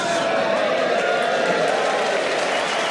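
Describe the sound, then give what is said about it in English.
An audience slow hand claps for an 80-year-old man in a dense, continuous wash of noise mixed with crowd murmur, holding a steady level throughout without any distinct individual claps standing out. “Slow hand clapping an old man is really, really, really.”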